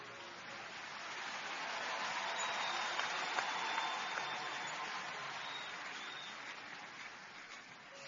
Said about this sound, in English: Somebody give the Lord a big clap and a shout of praise.